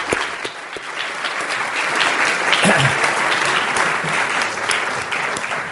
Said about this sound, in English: give him a round of applause as he comes there?